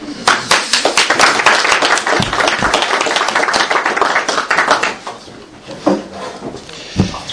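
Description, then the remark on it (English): A crowd applauds with dense, sustained clapping for about five seconds, then it thins out into a few scattered, fading claps. “We're applauding the power that brings us all here together tonight, right?”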